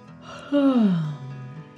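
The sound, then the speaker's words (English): A narrator gives one drawn-out, performed yawn for a story character named Tyra, its pitch sliding steadily downward before trailing off into a soft breathy tail. It sounds clear, with no talking around it. “Then Tyra yawned.”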